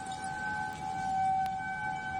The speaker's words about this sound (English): Outdoor warning sirens, often referred to as tornado sirens, are a familiar sound throughout Minnesota.